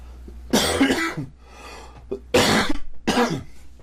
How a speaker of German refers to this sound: Was ist das? Warum fängt der Let's Player und macht dann und hustet jedem erst? Ist ihm das nicht peinlich? Ich verstehe es nicht. Wie kann einem das nicht unangenehm sein, das so hochzuladen?